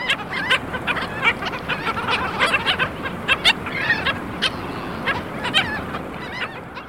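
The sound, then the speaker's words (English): A flock of black skimmers (Rhynchops niger) on a beach in Texas calls constantly, short nasal barking yelps overlapping from many birds at once, some loud, over a steady hiss of wind or surf. “And lastly, we have the black skimmer, Rhynchops niger. Here's a group of skimmers hanging out on a beach in Texas.”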